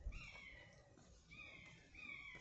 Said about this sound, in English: That's buzzards calling to each other. And a crow. Crows always like to get in on the act. I do wonder what they're saying to each other.